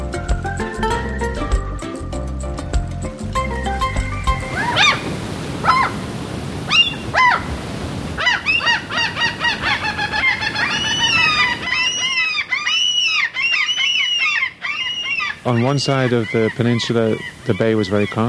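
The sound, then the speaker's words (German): After a brief burst of music, birds call loudly and repeatedly, their rising and falling cries overlapping in a busy, chattering chorus that carries on to the end. “Dafür gibt es eine Menge Vögel und Gegend”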